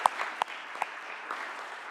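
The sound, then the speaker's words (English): A round of applause from a group at the close of a Senate session, recognizing Senator Ochoa-Bogue's birthday: dense, steady clapping with a few sharper individual claps standing out early on, holding at an even, moderate level throughout. “So please join me in give a round of applause recognizing her birthday.”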